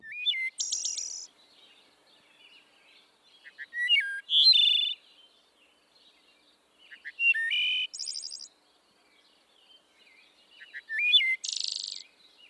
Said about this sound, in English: I came to learn this is the wood thrush. And then I remembered, oh, this was Thoreau's favorite bird song.